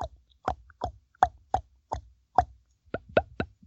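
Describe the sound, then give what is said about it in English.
A voice imitates a bull's glunk call with the lips, making a string of about ten hollow, popping plops at a steady pace that quickens toward the end, with no talking. “Use your lips like I'm doing. And you can regulate the speed. And that sounds like a glunk.”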